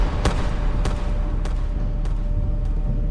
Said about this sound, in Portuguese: Com uma pistola de João Jacques em crava, é o cabo Gil quem dispara os 4 tiros